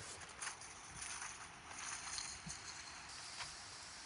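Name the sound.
rushing waterfall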